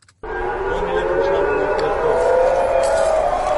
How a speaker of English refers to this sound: Sirens and explosions could be heard in Tel Aviv and Jerusalem.